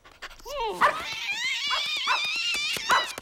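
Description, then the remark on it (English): A dachshund, just woken up, growls and barks in a few short bursts, with high, wavering whines and yelps between them, fairly loud throughout. “The dog wakes up.”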